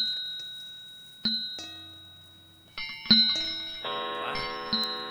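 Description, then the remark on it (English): An old disused bell swings and rings out on a bitter night in a series of struck tones, each strike ringing on as new ones join, building into a dense, shimmering chime. No voices are heard. “His glance happened to rest upon a disused bell. And as he looked, he saw this bell begin to swing.”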